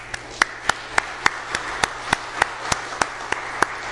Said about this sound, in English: So I will just say to everyone who made this event possible yesterday, thank you, and maybe give them all a round of applause.